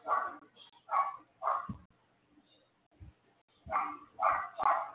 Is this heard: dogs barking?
yes